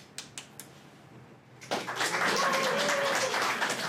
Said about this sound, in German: Am besten ist einfach der spontane Applaus, und, der nicht gefordert wird.